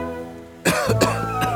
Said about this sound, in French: Je toussote, je crachote. Me revoilà à mon point de départ, mais au moins, j'ai échappé à la noyade.